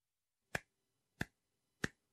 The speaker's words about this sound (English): And listening to the rhythm of English can be helpful for learning how to pronounce it well. So you can clap your hands while you listen, like this.